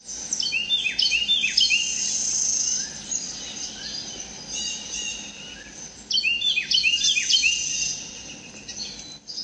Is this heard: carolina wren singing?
yes